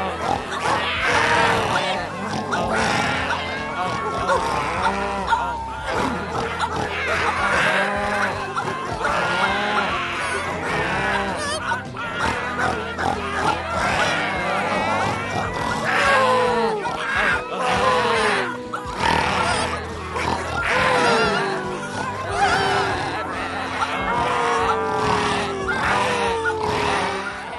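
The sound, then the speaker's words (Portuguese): A loud chorus of farm animals grunting, squealing and roaring together as they sing an anthem, a dense, chaotic din that runs continuously for nearly half a minute, rising and falling like a rowdy group chant. “Mas quando a situação se complicava, os animais se inspiravam, cantando o hino que os porcos e o macaco haviam ensinado.”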